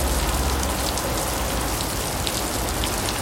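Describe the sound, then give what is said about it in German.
Dense, steady rain turning into a downpour at a marksmen's festival hisses and patters continuously on a hard surface, heavy, with a constant loudness throughout and no voices. “Dauerregen auf Platzregen.”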